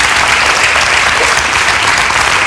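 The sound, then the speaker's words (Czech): A studio audience at Slovak Radio applauds steadily, a dense, even patter of many hands clapping at a loud, constant level throughout, with no voices standing out. “A víte, proč tleskají?”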